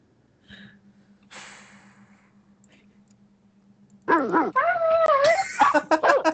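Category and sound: animal, dog whimpering and yipping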